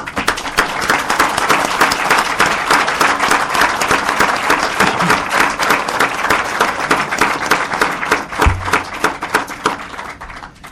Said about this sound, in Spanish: Si me lo permiten, puesto que están incluidos en el libro, pero no están aquí, pido un aplauso.